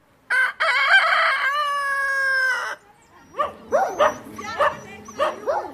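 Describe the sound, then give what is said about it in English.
A rooster lets out a long, loud crow, followed by a series of sharp, rhythmic barks from stray dogs, outdoors on the streets of Vulindlela, a poor community near Pietermaritzburg, with no one speaking. “Roosters and stray dogs vie for territory on the streets of Vulindlela, a poor community near Pietermaritzburg.”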